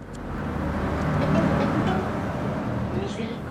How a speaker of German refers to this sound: Es ist 7 Uhr morgens. Der Stadtbus Nummer 3 fährt vom westlichen Stadtrand zum Bahnhof Freiburg. Die Leute sitzen noch etwas verschlafen auf ihren Sitzen.